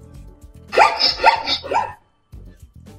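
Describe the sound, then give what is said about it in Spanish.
A zebra gives three quick, loud bark-like yelps in a rapid run, each one harsh and breathy, with a faint low rumble of background noise before and after. “Suena extraño, pero así es como vocalizan, y de hecho en varias ocasiones desconocemos qué tipo de sonidos hacen algunos animales, y pues bueno, el día de hoy ya saben cómo suena una cebra.”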